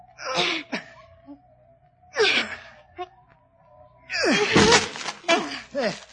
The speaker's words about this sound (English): can't you break the door down? I can try, milady. Here, let me help. Now then, both together.